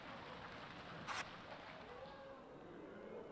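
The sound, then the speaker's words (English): An audience, asked for a drum roll, drums a steady roll with their hands, a dense pattering rush much like heavy rain, with one brief louder burst early on. “It started to sound like it was raining again, but it's all right.”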